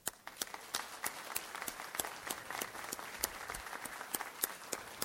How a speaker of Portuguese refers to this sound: eu gostaria que a plateia aqui também me acompanhasse com uma grande salva de palmas para esses bombeiros que vieram aqui, mesmo com a ordem contrária de não aparecerem.